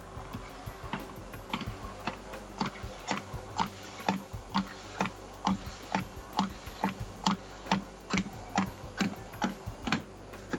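A treadmill belt, set from its panel to 6 km/h, runs with a steady low hum and a sharp, regular click about twice a second, ticking evenly like a clock throughout, with no one talking; the belt rubs on the rollers.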